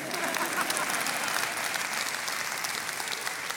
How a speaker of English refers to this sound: And I just want, you can clap.